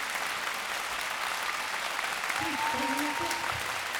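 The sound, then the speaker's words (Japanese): Steady, dense audience applause for a group at the Sakura Hall Musical Jazz Concert fills the whole stretch at an even level, with a faint voice and a thin rising tone briefly surfacing beneath the clapping near the end. “大きな拍手をもう一度お願いします。”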